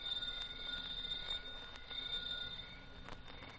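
doorbell ringing

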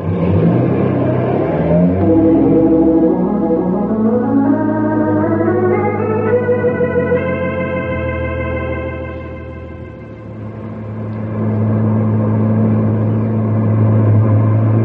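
car engine revving

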